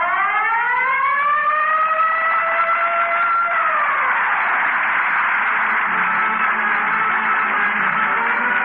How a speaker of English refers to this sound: And remember, whenever you hear the siren and bell, think of Texaco.